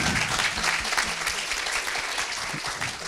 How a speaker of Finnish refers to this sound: 50 vuotta oli, yhteispeliä, niin, tässä välissä aplodit sille.